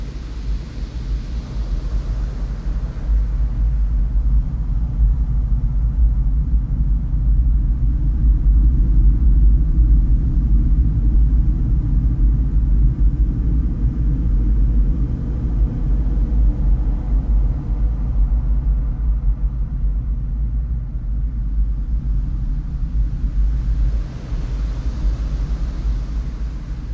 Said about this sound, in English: it has a special property where that when the wood fibers are excited by acoustic energy, in this case it's the sound of the ocean itself, that the fibers actually vibrate. And inside, we get to listen to nature's largest violin.